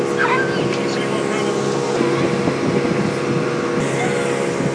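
A boat motor drones steadily, a continuous low hum with rushing water and wind noise layered over it, holding an even loudness throughout, while a six-year-old girl drives the boat.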